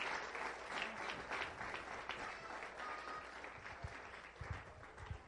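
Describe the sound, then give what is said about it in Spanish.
An audience claps for the Lord, the King of Kings, steadily for several seconds, a dense, continuous wash of applause with a few louder low thumps near the end and no speech. “¿Cuándo se atreven a darle un aplauso al Rey de Reyes y Señor de Señor?”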